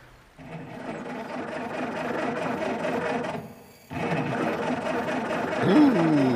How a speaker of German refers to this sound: Das hört sich gar nicht gut an. Puh, kann das Auto repariert werden?